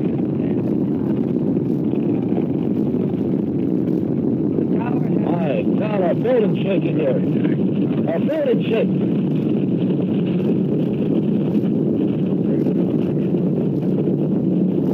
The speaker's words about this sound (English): 5, 4, we have ignition. All engines are running. We have liftoff. We have liftoff at 7 a.m.